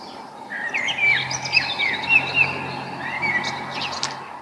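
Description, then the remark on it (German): Morning birdsong with several birds chirping and trilling in overlapping bursts, clear over a low steady hum, with no talking. “Kennt ihr das, wenn ihr morgens aufwacht und euch die Vögel wecken?”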